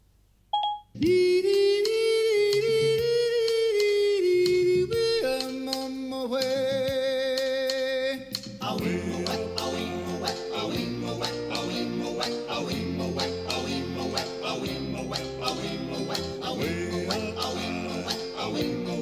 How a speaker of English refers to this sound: While it's just sitting there on power, let's play some music and see what it sounds like. I'm just going to use Siri to play a song.